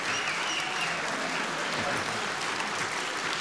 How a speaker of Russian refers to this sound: И хлопайте ровно. Блеск.